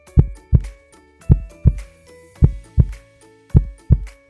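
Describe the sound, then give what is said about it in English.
A heart beating faster with excitement thumps in deep lub-dub pairs, four double beats in a steady rhythm, with a faint sustained tonal hum underneath and no talking. “As the eagle flew closer to London, Charlie's heart beat faster with excitement.”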